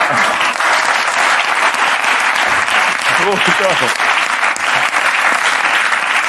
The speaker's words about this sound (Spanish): Pide un aplauso para ti ahora. Y en mitad del aplauso, ¡pum! Ya está aquí Rafael Amargo.